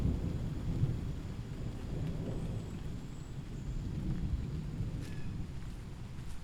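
Steady, dense rain falls without pause on a corn maze, a full hiss layered over a deep low rumble like thunder, continuous, with no voices.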